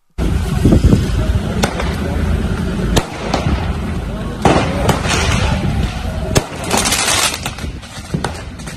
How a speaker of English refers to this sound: we can hear first some of the sounds of last night's disturbances on the streets of Belfast as PSNI units came under attack from fireworks thrown at them at Lanark Way.